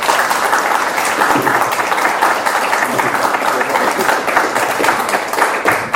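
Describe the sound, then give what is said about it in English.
An audience applauds both speakers after a debate, a dense, steady wash of many hands clapping that holds at an even, fairly loud level for about six seconds without fading. “I think a round of applause for both our speakers.”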